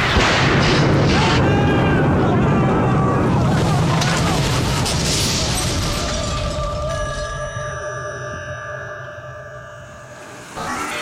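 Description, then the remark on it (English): A loud, crackling blast of a lightning strike during a thunderstorm and a boat exploding, followed by rumbling debris noise that gradually fades into steady, eerie ringing tones. “The lightning struck, the boat exploded, and here we are, washed up on the shores of the great desert.”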